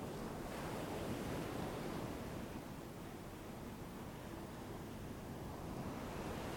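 An ocean wave washes in with a steady, broad rushing roar that swells slightly and then softens, continuous surf noise without any voices.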